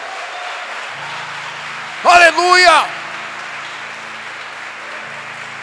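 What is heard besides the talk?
audience applause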